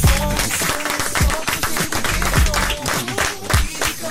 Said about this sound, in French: Applaudissements